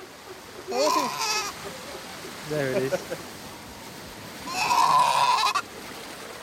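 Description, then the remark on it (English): A Juan Fernandez fur seal pup gives two loud, wavering, sheep-like bleating lost calls, each lasting under a second, with a man briefly speaking in the gap between them. “That call that sounds a bit like a sheep is its sort of lost call.”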